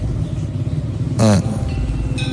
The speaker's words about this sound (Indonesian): Belum sempat terjawab, tiba-tiba Cindy membunyikan klakson motornya. Katanya kalau lewat jalan ini harus bunyiin klakson atau buang puntung rokok.